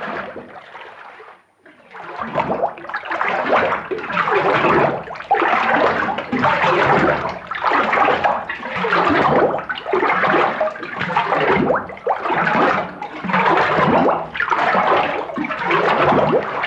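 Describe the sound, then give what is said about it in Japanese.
Thick papermaking slurry being stirred as water is mixed with the raw materials and tororo-aoi root mucilage for handmade Japanese washi paper in February: a steady rhythmic swish-and-slosh that repeats roughly every second and a half, fairly loud and wet-sounding, with no talking over it. “とろみがつくとこんな音に変わります。”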